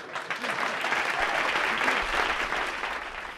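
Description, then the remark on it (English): A crowd at a live strike-relief concert for telecommunications workers in British Columbia, on strike against Connecticut General Telephone, applauds steadily for a few seconds. It is a dense, even wash of many hands clapping at a constant loudness, with a few faint voices mixed into the clapping. “Well, I don't suppose he applauded there at those bunkhouse bull sessions or not, but that was a live concert doing strike relief for the telecommunications workers up in British Columbia once.”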